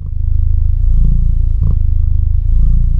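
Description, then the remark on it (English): A cat named Bilbo purrs loudly, rumbling steadily for a few seconds in a continuous low vibrating drone with a subtle pulsing rhythm and a brief rustle partway through, no voices. “Nothing says feline contentment like a good, rolling purr.”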